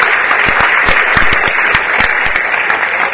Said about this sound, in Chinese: 首先我们是不是借用现场所有观众热情的掌声，欢迎今天主办单位春雨文教基金会陈世凯陈董事长为我们致辞。